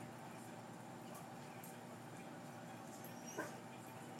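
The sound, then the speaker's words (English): A dog yawns once, ending in a brief, high, squeaky whine near the end, set against a steady low background hum with no talking. “That was the yawn.”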